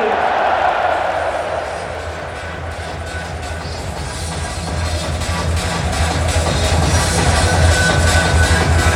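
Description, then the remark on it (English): A large crowd of Feyenoord fans in a football stadium in Rotterdam applauds and roars as player Jokuma Mente comes off the pitch after a 6-0 win, a steady, dense wash of noise that holds for the whole stretch, swelling slightly toward the end, with a low rumble underneath. “Jokuma Mente has just come off the pitch after taking the solo applause of a Feyenoord fans.”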